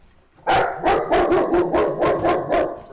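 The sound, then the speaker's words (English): A K9 team dog barks excitedly in a quick, steady series of about eight loud barks, each a sharp burst with a little yip in it, with no one talking. “I make a mad dash to meet the dogs. There's two.”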